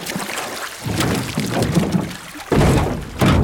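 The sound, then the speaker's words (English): Water sloshes and drips as a scuba diver hauls themselves out of the water onto a boat, with a few dull thumps against the hull and bursts of splashing, fairly loud, no voices. “Okay now, pull yourself out of the water and onto the boat.”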